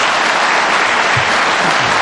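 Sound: audience applause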